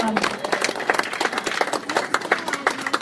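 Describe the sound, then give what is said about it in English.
An audience at a Greene County civic gathering on government applauds itself for about three seconds, many hands clapping in a dense, steady patter at an even, fairly loud level, with faint crowd voices mixed in. “Clap, everybody, a big round of applause.”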